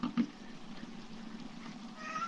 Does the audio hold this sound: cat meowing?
yes